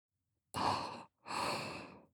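Two slow, airy breaths blown right up against the microphone, each lasting about half a second with a short pause between, intimate and close with no talking.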